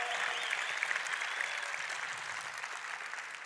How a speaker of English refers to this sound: We need to clap that up for a second. By show of clapping loudness, how many people agree with what I just said? Please go.